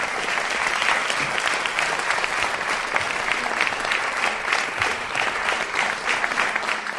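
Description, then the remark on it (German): Sustained applause from a large theater audience at the end of a play, a dense steady wash of many hands clapping at even loudness for the whole stretch, with no voices standing out. “Mit dem Applaus endet ein Theaterstück.”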